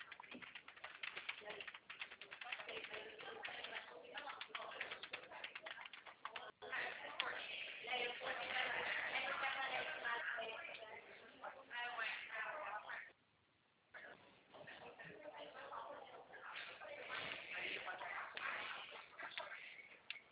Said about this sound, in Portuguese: Ah, é porque tá pedindo meus dados, eu tô digitando ele aqui. Tá. Já tô na página, eu tô no página do CEP.